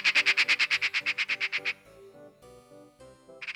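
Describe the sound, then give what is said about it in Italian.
A magpie chatters in a rapid, harsh rattle of about fourteen loud, dry notes. It falls silent over a softer tonal background, then starts up again briefly at the end. “il verso di una gazza li distolse dal loro dolce far niente.”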